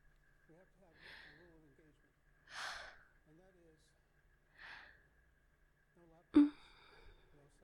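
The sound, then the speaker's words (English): A drawn-out yawn: soft, wavering vocal groans broken by several breathy exhales, ending with a sudden sharper intake of breath. Fairly quiet, with no talking. “I did not moan. That was just a yawn.”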